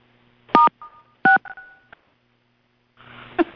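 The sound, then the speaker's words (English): Phone keypad tones beep in a short sequence of two or three dual-tone presses with brief gaps, followed by a faint electronic chime, as someone dials #6 or *6 to mute their phone on a call; clear, with no one speaking. “It's either #6 or *6. I can't remember which one it is. Okay. I'll try that.”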